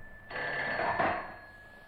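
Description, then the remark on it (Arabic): A telephone bell rings once in a sustained burst of about a second and a half, bright and buzzing, with no talking over it. “من على الهاتف يا ترى؟”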